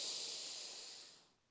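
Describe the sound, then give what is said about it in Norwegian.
A long, steady, deep inhale through the nose during a guided breathing exercise, airy, with a breathy hiss that slowly fades toward the end; no talking, just one drawn-in breath. “Pust godt inn med nesa.”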